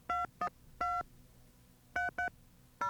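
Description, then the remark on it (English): Touch-tone keypad beeps as a phone number is dialed: six short, clear dual-tone presses in uneven groups, fairly loud, with no talking over them. “You know, there was a phone call I was wanting to make that I almost completely forgot about.”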